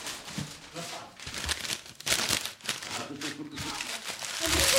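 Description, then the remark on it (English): Paper rustles and crinkles in a run of short, uneven bursts as it is folded and creased for origami, with faint murmuring voices underneath. “And now, 15 minutes of origami.”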